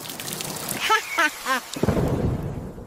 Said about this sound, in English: Come home now. It's raining and you are all wet.